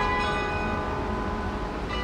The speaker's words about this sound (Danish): men nu slutter den altså op over hovederne på intetanende københavnere, der er på vej hjem fra arbejde i myldretidstrafikken, mens klokkerne blander sig med støjen og blæsten og regnen.